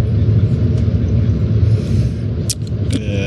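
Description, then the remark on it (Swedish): A steady, heavy low-pitched bus engine rumble drones throughout, loud and continuous, with a few brief hissing bursts near the end, on a handball team's bus trip with four hours left, just out of the Småland forests. “hur känns det nu då att ha 4 timmar kvar på bussen, precis kommit ur de småländska skogarna”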